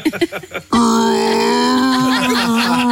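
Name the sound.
loud yawn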